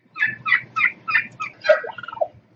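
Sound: wild turkey gobbling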